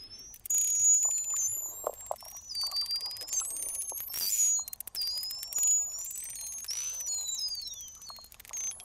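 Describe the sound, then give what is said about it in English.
Many overlapping high-pitched whistles from marine mammals, rising, falling and looping in pitch, over a bed of crackly clicks and faint low rumble, with no voices present. “Yeah, so that's predominantly whistles.”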